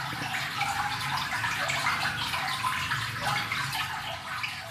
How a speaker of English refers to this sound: Those are the sounds of an underground stream called North Branch, which flows under Highland Park.